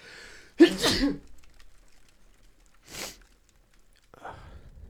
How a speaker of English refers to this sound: It's like a very, it's just like, oh, I'm going to sneeze.